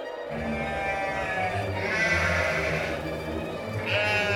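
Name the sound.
goats bleating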